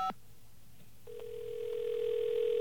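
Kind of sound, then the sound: signal or alarm, telephone dial tone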